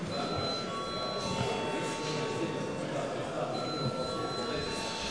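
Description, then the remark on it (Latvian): A parliament chamber bell rings continuously for several seconds before a vote on whether to treat a bill as urgent, a steady, sustained electric tone, with a low murmur of voices and shuffling underneath. “Paldies, lūdzu zvanu.”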